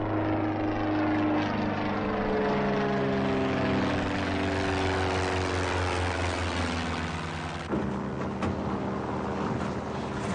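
A propeller plane's engine drones steadily and loudly throughout, with a strong low hum and harmonic whine, shifting pitch slightly near the end as if the throttle changes.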